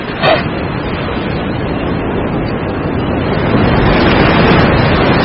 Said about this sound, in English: The bracing waters of the Southern Ocean.